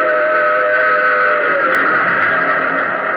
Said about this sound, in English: A rumble filled the air. And just as I reached the rail bed, I saw the tunnel hewn out of mountain rock. And plunging from the tunnel's mouth, like some black, terrible monster, roared a train. Tore by me in a deafening roar.